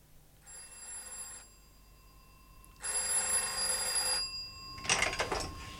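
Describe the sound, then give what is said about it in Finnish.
An old-fashioned telephone bell rings in two long, loud bursts separated by a pause, followed by a brief clatter like the receiver being picked up. No one speaks. “Toimittaja Reima, puhelu.”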